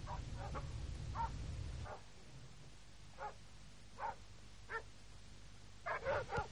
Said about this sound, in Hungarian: Megvesztek ezek a kutyák. Nem fogunk aludni miattuk.